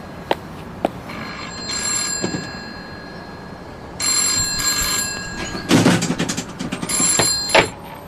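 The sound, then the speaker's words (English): A telephone bell in a phone booth rings in three bright, jangling bursts separated by short pauses, preceded by a couple of sharp clicks, clear, with no talking. “When was the last time you were in a phone booth?”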